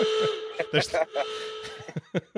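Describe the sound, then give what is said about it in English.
A steady, mid-pitched alarm tone holds for about two seconds, hissy and whistle-like, while a voice talks over it in short bursts. “I said, you know, if they go off from three, it might be time to sound the alarm.”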